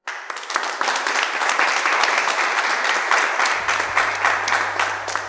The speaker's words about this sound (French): Je vous invite alors à applaudir bien fort